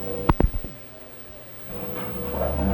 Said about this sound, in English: That little dog's in the bathroom, isn't he? She's on the back porch.